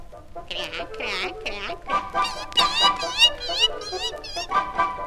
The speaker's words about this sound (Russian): Вскоре добрались и до птичьего двора. Ну и шум тут стоял. Ну и гам. Два утиных семейства дрались из-за одной рыбьей головки.